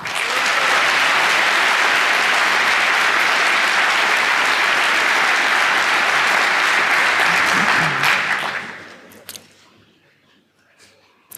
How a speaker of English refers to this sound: The three students have been working on hacking the Nintendo platform for a while now, and please give them a warm applause.